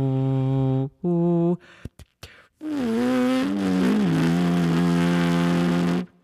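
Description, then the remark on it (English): A horn player, without the horn at the lips, makes a few short buzzy lip-buzzing bursts and clicks with brief gaps between them, then a steady throat hum from a single voice, sustained for several seconds with slight pitch wobbles. “And this is me humming.”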